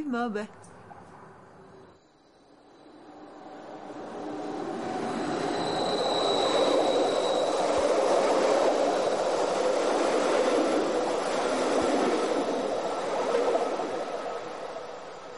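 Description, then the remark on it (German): A train of the MOB railway rolls past on the track directly beside a house in Sauzier, its rumble swelling after a brief voice at the start and holding loud and steady, with a thin metallic wheel squeal rising partway through. “wohne in Sauzier direkt neben dem Gleis der MOB.”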